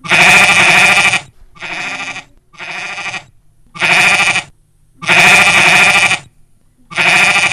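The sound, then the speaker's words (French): Sheep bleat six times in a row, loud, each cry lasting about a second, with louder bleats alternating with slightly softer ones and brief silent gaps between. “Oui, Pilou, il voit des moutons.”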